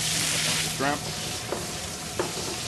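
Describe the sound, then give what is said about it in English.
Large headless white shrimp (20 to 25 a pound) sizzle in hot olive oil on a restaurant gas range with a steady, hissing crackle, broken by three brief scrapes or clinks of a utensil stirring the pan. No one speaks. “Okay, right now I'm just putting olive oil in. And now I'm going to take the shrimp.”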